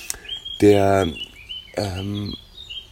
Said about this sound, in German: Der hat so einen Gesang, der klingt so di da da da da da da da. Und es ist der Gartenrotschwanz, der diese erste Teil, dieses ist sehr, sehr weit zu hören.